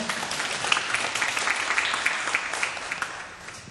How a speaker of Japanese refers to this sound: 先生ありがとうございました。皆様もう一度盛大な拍手をですねお願いいたします。